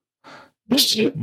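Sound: sneeze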